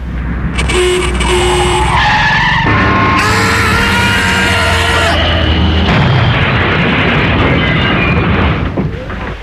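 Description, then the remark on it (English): A loud, high-pitched screech of tyres as a bus skids for several seconds, then a harsh, noisy crash as it hits a person crossing the road, trailing off into rumbling clatter. “Am I cover for being hit by a bus?”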